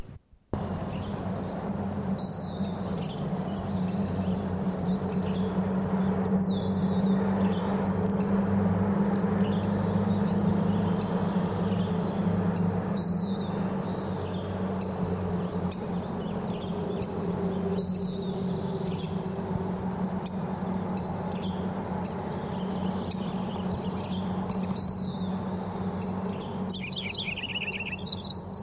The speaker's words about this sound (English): He's singing from the willow. For about 6 inches from the bottom, from the top of the tallest stalk. There's also two other Lincoln sparrows singing. Lincoln sparrow number 4.